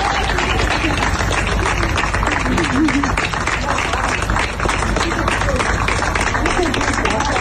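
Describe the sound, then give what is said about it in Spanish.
In Ibiza, local police applaud the health workers of Can Misses, who applaud back; the dense clapping holds an even loudness for several seconds, with indistinct voices and a few calls mixed into the noise. “Y en Ibiza, aplauso sanitario de la policía local hacia los sanitarios de Camises, y estos se lo devolvían también.”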